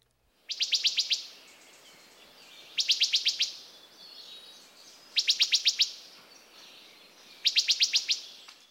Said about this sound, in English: The call note of the wood thrush is a loud, clear pip, pip, pip, pip.